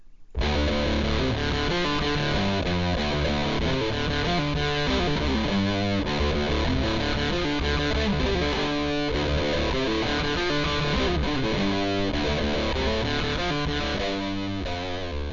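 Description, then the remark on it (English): Electric guitar (a Gibson 335) played through a Big Muff fuzz pedal into a Fender 57 Custom Twin amplifier, saturated and sustained, chords ringing with heavy distortion at a steady loud level throughout, no voices. “That's just the Big Muff going into a Fender 57 Custom Twin with a Gibson 335.”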